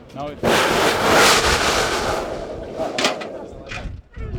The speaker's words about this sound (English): a demonstration of a volcanic eruption